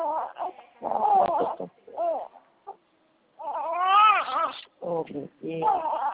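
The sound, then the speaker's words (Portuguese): A small baby cries in a series of wavering, high-pitched wails, breaking briefly near the middle before resuming in shorter bursts, moderately loud. “Ai, que chorinho mais doçoso.”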